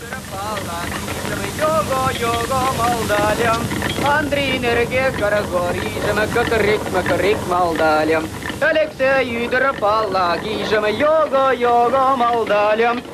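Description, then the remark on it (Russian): A man sings a flowing folk-style melody with wavering vibrato, fairly loud, over a constant rumbling mechanical clatter. In a Soviet film, the character Mustafa, played by poet Ivan Kyrlya, sings a Mari or Chuvash national song while rowing a handcar along rails like a boat. “Гребя на ней, как на лодке, Мустафа самозабвенно поет.”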